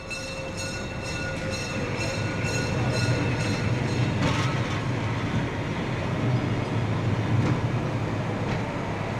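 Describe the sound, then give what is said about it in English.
A train in Germany rumbles steadily along the rails, its wheels clattering in a continuous low roar with faint metallic tones ringing above, fairly loud with no voices. “Your own Germany was still just a train ride away.”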